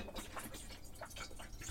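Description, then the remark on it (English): Soft, irregular splashes and trickles of water as water is poured while making a coffee, fairly quiet, with a steady wash of low background noise underneath and no one talking. “Not quite enough water.”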